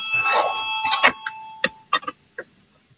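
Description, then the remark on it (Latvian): A parliamentary voting bell gives a steady, high electronic ring for about a second and a half, calling a vote on proposal 90 from Finance Minister Reirs, mixed with sharp clicks and knocks, followed by a few scattered taps. “Lūdzu zvanu balsosim par 90. Finanšu ministra Reira priekšlikumu.”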